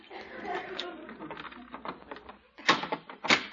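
footsteps approaching

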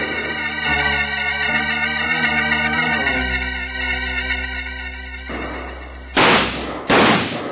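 gunfire

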